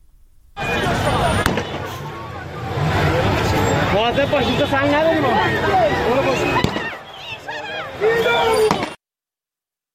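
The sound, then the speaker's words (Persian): Gunfire and tear gas launcher shots as security and military forces fire at people at a street protest: a few sharp, isolated bangs cut through a loud, continuous crowd of shouting voices and agitated chatter. “نیروهای انتظامی در واقع امنیتی و نظامی گاز اشکاور شلیک کردن، تیراندازی کردن به سوی مردم. ما صدایی داریم از این.”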